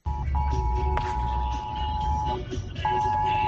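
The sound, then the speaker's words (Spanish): A mobile phone emergency alert, sounding at 5:01 pm in municipalities affected for over two weeks by the DANA storm, blares a loud, steady high-pitched tone that cuts out briefly twice, then resumes, over murmuring voices and ambient noise. “Pues mira, que a las 5:01 de la tarde, a todos esos municipios afectados desde hace más de 2 semanas por la dana, les ha sorprendido una vez más ese sonido tan molesto ya en el móvil.”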